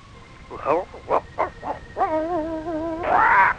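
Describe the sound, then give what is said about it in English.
The dog Shep, Wonder Dog of the Island, lets out a quick series of four short barks, then a drawn-out wavering whine, ending with one loud, full bark. “And now, the Mainline presents Shep, Wonder Dog of the Island.”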